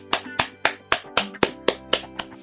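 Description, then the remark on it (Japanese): Applause made of about ten crisp handclaps in a steady, even rhythm, each sharp and moderately loud, with a faint sustained tonal hum running underneath and no talking. “マロンクリームさんにみんな拍手。”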